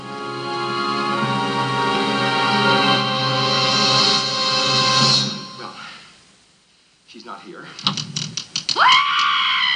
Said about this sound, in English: Great scream. They reuse it.